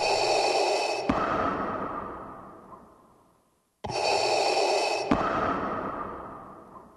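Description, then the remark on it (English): Mechanical respirator breathing sound effect, two full cycles: a loud hissing inhale, a sharp valve click, then a long exhale that fades away before a brief pause. Steady, with no talking. “They settled on just the breathing.”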